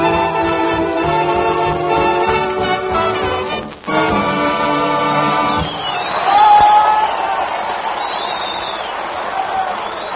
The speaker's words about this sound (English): Applause by the U.S. Navy at California's Oakland Naval Hospital.